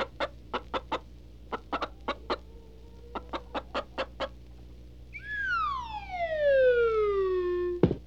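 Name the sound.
hen clucking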